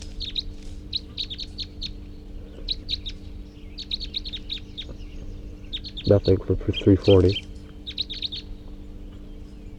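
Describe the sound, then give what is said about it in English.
Two wild birds, one a female, chirp in quick bursts of short, high tweets as they take off and fly, repeating in small clusters, while a man speaks briefly partway through. “Recording those two wild birds took off and flew.”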